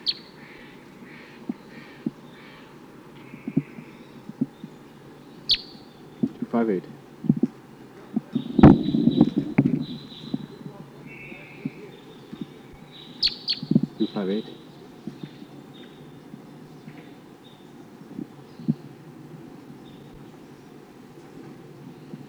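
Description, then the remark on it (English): Short, high-pitched calls from bird number 258 chirp on and off throughout, some in quick clusters, as the bird responds to Sid Kansas type calls from the wild, over a steady low rumble with an occasional louder bump of noise. “Recording bird 258. Responding to Sid Kansas type calls from the wild.”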